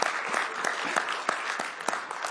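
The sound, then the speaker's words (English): An audience claps steadily for five people, a dense patter of many hands with a few sharper individual claps standing out, sustained at a moderate, even level throughout. “How about a one more round of applause, honestly, for all five of them for this one?”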